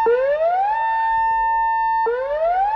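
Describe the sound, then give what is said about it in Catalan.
A loud dam emergency alert siren sounds during a morning drill at the Llauzet dam, Montanui and Vilaller, Alta Ribagorça, heard across the Barravés valley. It wails upward, holds a steady high tone for over a second, then drops and begins rising again, with no voices. “L'objectiu, familiaritzar la població amb el so de les sirenes d'alerta que sentim i divulgar el pla d'emergència en cas d'un trencament que pugui provocar una inundació.”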